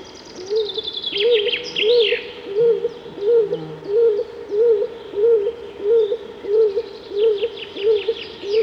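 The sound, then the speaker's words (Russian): A stock dove coos in a quiet stretch of forest in a steady, evenly spaced series of about a dozen low, hollow notes, clear, while other birds chirp and trill faintly in the background. “Это лесной голубь Клинтух. Его воркование услышишь только в старом глухом лесу.”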